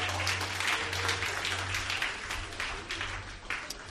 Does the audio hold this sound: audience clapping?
yes